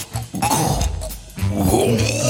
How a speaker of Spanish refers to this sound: Perdón, el gato, me parece que el gato está... Perdón. Ah. Una bola de pelo.